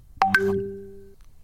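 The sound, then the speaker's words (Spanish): A short WhatsApp message notification chime, not the typical Samsung bird tone: two quick bright attack notes followed by a sustained tone that rings for under a second and fades out, clear with no voices. “Eso es un WhatsApp.”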